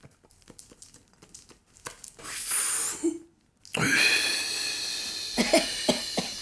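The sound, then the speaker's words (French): Tobacco being packed into a pipe: soft, irregular crinkling and tapping rustles, followed by louder breathy hissing bursts and a cough-like snort, with no speech. “Laissez-moi bourrer ma pipe.”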